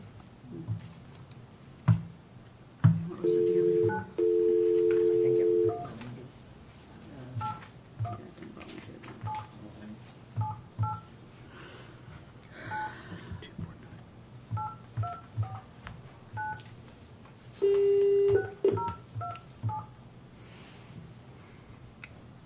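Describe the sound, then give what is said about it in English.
A telephone call placed from the Taney County Board of Equalization, with a series of short touch-tone beeps as it is dialed, then steady ringing tones in a couple of long bursts and another ring later, heard fairly clearly over faint room noise. “I'm going to give them a phone call”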